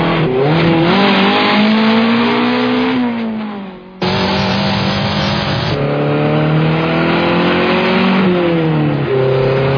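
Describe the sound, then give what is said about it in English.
A motorcycle that has been following behind for the last mile revs hard, its pitch climbing and dropping through gear changes in a continuous, loud roar, with a brief dip before it surges again. “that motorcycle... It's been following us for the last mile.”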